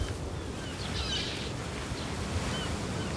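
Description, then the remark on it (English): Steady wash of sea surf and gusting wind at the shoreline beside a caravan site, a constant broad roar with low rumbling buffets and a few faint high chirps drifting over it. “Dennis and Ron walk by the side of the caravan site, looking out to sea.”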